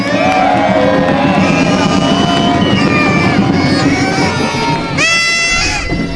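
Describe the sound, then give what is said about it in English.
A large crowd at a jungle-themed carnival cheers and whoops loudly and continuously, with many overlapping voices and a few high shrill whistles or shrieks near the end. “So can you give yourselves a big cheer for keeping the rain away?”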